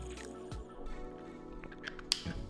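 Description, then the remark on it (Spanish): Someone takes a quiet sip of water, with soft wet mouth sounds, a gulp and a small click, and no talking. “Mira, para mí, bueno, permíteme que vea un poquito de agua.”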